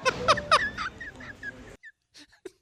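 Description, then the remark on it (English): A dog named Ginger whimpers in a quick run of high, thin whines and sharp yelps, then falls briefly quiet before a few fainter whimpers at the end, fairly loud. “If my dog Ginger could speak English, you'd hear her say she wants her own doggy vacation at Play and Stay Pet Daycare when I go on vacation.”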